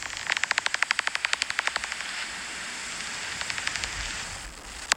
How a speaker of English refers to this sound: But there are a lot of different sounds that bats can make. So I've got a few on my phone here. This is a brown long-eared bat.